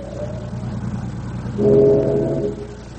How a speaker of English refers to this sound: Did you hear that whistle? Yeah. That's no traffic whistle. It sounded like one on a steamer.